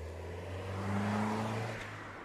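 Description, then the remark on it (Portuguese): A getaway car is started and accelerates down the street, its engine a steady low drone that swells in the middle then eases as it pulls away, with no voices. “senta-se no lugar do condutor e liga o carro. Finalmente, o João acelera pela rua.”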